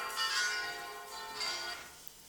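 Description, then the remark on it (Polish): Church bells from Mount Tabor ring faintly, two strikes about a second apart, each leaving a shimmering, sustained ring that blends into a continuous metallic hum. “Są dzwony z Góry Tabor.”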